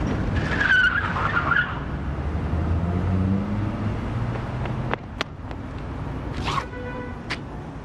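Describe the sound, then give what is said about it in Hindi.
A car's tires screech loudly over a rumbling engine, followed by a sharp thud as the car hits a man in front of a park, then the vehicle roars on and away; no talking. “Hello sir, यहाँ पर accident हो गया है, एक आदमी को गाड़ी मारकर चली गई है, यहाँ पार्क के सामने।”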